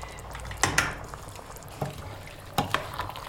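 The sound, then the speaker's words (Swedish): Water bubbling in a cooking pot, with a steady low simmer broken by several sharp pops and gurgles at irregular intervals, moderately loud, no talking. “Det bubblar bra i alla fall.”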